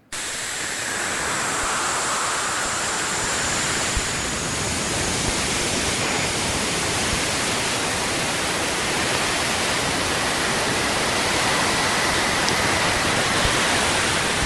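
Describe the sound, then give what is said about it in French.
A space probe recording made while crossing Saturn's rings: a dense, steady wash of crackling static hiss that starts abruptly and holds at an even, loud level throughout, with no voices. “c'est des sons que la sonde enregistre pendant que nous traversons, par exemple, les anneaux ou la magnétosphère”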